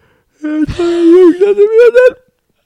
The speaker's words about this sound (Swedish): man vet inte så mycket om gäspning. Vad fan det är egentligen. Men det är en djup reflexmässig inandning med öppen mun.